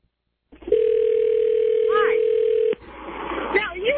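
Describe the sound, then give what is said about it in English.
A steady, loud telephone dial tone hums for about two seconds before cutting off abruptly, as a Sprint phone is used to place a call by someone pulled over at the side of a road; faint voices and background noise follow. “All right, I'm calling you on the Sprint phone.”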